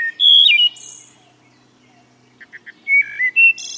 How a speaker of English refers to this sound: A songbird that weighs just an ounce, such as this wood thrush we're hearing, may travel across continents, thousands of miles a year.